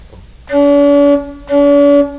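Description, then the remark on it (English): A loud organ pipe, blown at very high wind pressure set at the bellows during voicing, sounds twice, each note a steady, bright, harmonically rich tone held for under a second with a strong, quick onset and a short gap between them. “Because if you set very high pressure and put the same pipe in the organ, then sound becomes much, much louder.”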